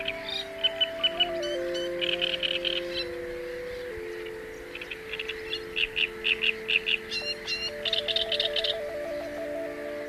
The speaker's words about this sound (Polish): Pani sołtys, sąsiedztwo mew macie dość krzykliwe tutaj we wsi. No i nie możemy się do tego przyzwyczaić. Tutaj jest o wiele więcej mew jak ludzi.